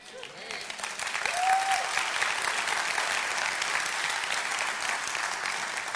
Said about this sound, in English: Now, I had him leave the applause track in there for a reason. Two reasons, really. One, because That's what it sounds like when there are people in the room, in case you forgot.